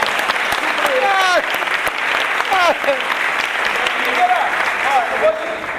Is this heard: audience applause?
yes